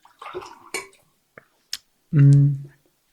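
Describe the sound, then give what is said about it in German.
Water is poured into glasses, splashing and trickling for a moment amid clinks of glassware, followed by a couple of sharp taps and a short low voiced hum. Fairly quiet. “Jetzt gebe ich auch ein bisschen Wasser noch dazu.”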